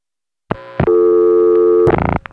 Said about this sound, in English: This is what the dialing portion of the call sounds like. In the other examples, I'll skip this and cut right to the call going through.